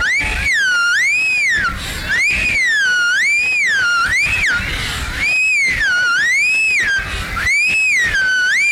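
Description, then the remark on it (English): A person whistles a continuous, undulating tone that rises and falls in a steady looping pattern, loud, with no talking over it. “Then he'd whirl around on the grassy ground, and I'd whistle to him like this.”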